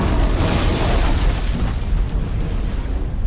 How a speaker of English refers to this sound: he heard the explosion from clear across the city. It was a distant boom, more than a bang.